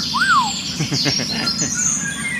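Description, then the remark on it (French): A Eurasian golden oriole, a yellow or greenish-yellow bird that blends in with tree leaves, sings a fluid, rising-and-falling whistled phrase, followed by softer warbling notes over a steady background hiss of other birds and insects. “C'est un oiseau magnifique. Alors, on le voit pratiquement jamais, pourtant, il a des couleurs de fou. Eh bien oui, il est jaune ou jaune verdâtre et il se confond avec les feuilles des arbres.”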